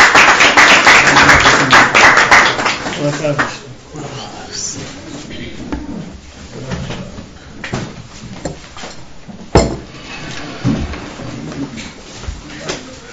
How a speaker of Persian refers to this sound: خواهش میکنم تشویق.